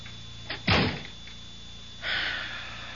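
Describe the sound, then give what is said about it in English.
A door swings closed with a solid thud, followed a moment later by a softer rush of air or latch noise. “Shut the door.”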